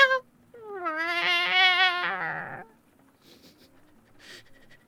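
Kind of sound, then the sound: animal, kitten meowing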